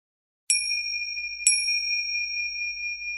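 A Mahayoga practice timer chime, used to time an hour-long mandala practice, strikes twice about a second apart to mark the start of the first practice, pranayama, each bright, high metallic ding ringing on in a long, steady sustain. No voices are heard.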